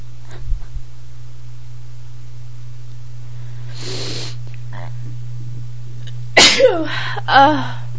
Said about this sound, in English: I've been sneezing all day today. I was hoping maybe I could catch a few.